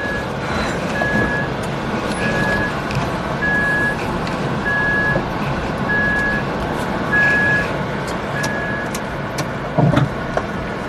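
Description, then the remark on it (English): A steady series of high-pitched reverse warning beeps repeats at an even pace over a low, rumbling engine as an automatic electric car used as a ride-hail car reverses, setting off to pick up a passenger, with no voices. “Never heard of him before, but I'm going to see him outside somewhere here, so let's go for a drive. We're in reverse.”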